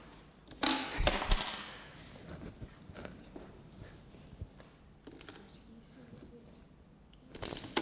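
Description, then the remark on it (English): Dominoes clatter and tap onto a newspaper-covered table in a quick scattered burst, followed by quieter intermittent clicks and a final sharp rattle. “It's the dominoes.”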